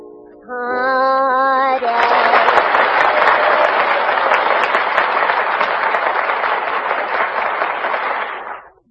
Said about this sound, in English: Now, as I put my hand over each contestant's head, the studio audience will applaud, indicating their favorites. First, I have my hand over the Furpo system.